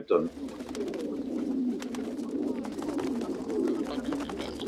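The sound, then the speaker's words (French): A group of pigeons coos steadily, a low, throaty murmur that never lets up, with scattered soft taps and flutters mixed in. “Mais souvent, les personnes âgées se moquent de tout cela et persistent à nourrir les pigeons.”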